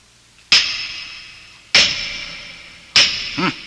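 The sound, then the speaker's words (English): Three heavy hammer blows strike thick, solid doors at roughly even intervals, each a sharp metallic clang that rings out and fades slowly before the next, the last followed by a brief low rumble. “Let's see how thick they are. Throw me a hammer, would you?”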